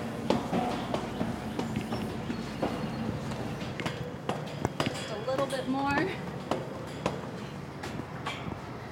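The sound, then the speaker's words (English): Footsteps climb a flight of stairs from the door at the base of a carillon tower, a steady series of hollow thumps, with a brief creak partway through and faint background noise behind. “led me up a flight of stairs.”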